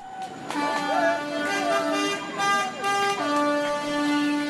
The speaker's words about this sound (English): Tunisians waved flags and honked horns after preliminary results were announced.